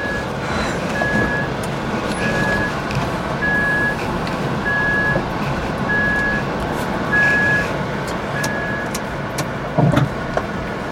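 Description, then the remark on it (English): An electric car with automatic gears, driven by a ride-hailing driver setting off to pick up a passenger, sounds its reversing warning beeps repeatedly in a steady, evenly spaced rhythm, clear, over a constant low engine rumble inside the vehicle. “so let's go for a drive. We're in reverse.”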